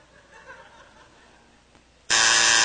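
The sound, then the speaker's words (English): A loud, harsh game show buzzer blares suddenly as a contestant buzzes in during a quiz round, holding steady as a sustained tone, following a stretch of quiet murmur and faint chuckling. “I mean, last round, you guys were breaking the buzzers, you know?”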